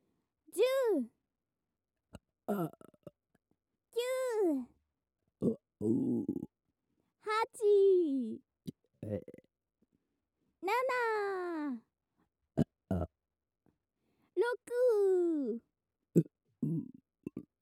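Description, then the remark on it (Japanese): A string of loud belches comes one after another at uneven intervals, some long and croaky with a falling pitch, others short and rough, with brief silences in between. “今年は連続ゲップの祈りだったからゼロは分かってるよね。”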